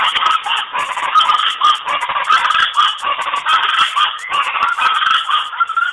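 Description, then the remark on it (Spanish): A loud, raucous chorus of chachalacas (guacharaca birds) calling, harsh cackling cries overlapping continuously, with no break and no talking. “Aquí el trino del ave llamada guacharaca.”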